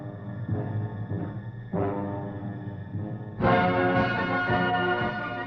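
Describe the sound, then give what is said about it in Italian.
Church bells in Perugia, Italy, ring on 20 June 1944 to announce the city's liberation, in a dense, overlapping wash of resonant metallic tones, with fresh strikes layering in and the peal swelling noticeably louder partway through. No voices are heard. “Il 20 giugno 1944 le campane annunciano la liberazione di Perugia dall'oppressione nazifascista.”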